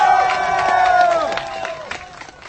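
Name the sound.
crowd cheering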